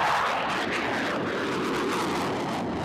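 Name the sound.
fighter jet engines roaring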